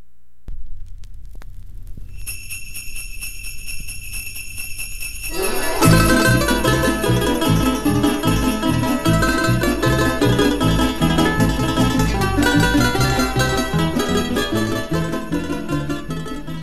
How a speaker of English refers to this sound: Well, balalaikas and sleigh bells, it must be time for Press Watch.